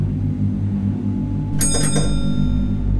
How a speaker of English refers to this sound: And about 5 minutes after driving, the stop request bell goes. And it's an old bus, it's quite an old analog bell.